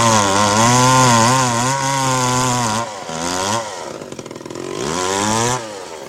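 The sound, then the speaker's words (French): A chainsaw runs loud, its engine droning and wavering in pitch, briefly dropping to a rough idle before revving back up again. “Et on termine cette tête au carré au son de la tronçonneuse”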